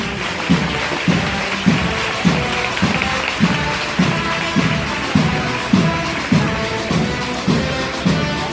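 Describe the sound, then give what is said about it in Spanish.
A crowd of spectators in a street claps in a dense, steady wash of applause as a procession float (paso) carried by costaleros stops, while a regular low thump beats underneath roughly twice a second throughout. “Ahora ahí sobre los pies, se para metiendo cintura, levantando el aplauso del público.”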